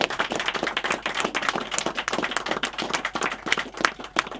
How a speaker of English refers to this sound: Please give Joe Conkright a big round of applause and your future allegiance.